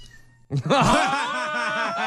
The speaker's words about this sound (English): Did you hear that? Well-timed cat meow. Which cat was that? That's our favourite one at the moment because it gives the most cuddles. Is that the boy cat?